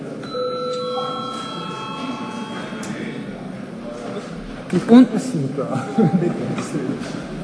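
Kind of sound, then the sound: signal or alarm, parliament session bell ringing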